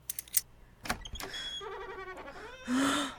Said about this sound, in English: Try one of the other keys to see if they unlock the door.